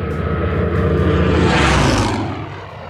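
A Second World War Spitfire fighter plane's propeller engine roars loudly overhead, its rumble swelling to a peak as it passes by, then beginning to fade away, with no voices.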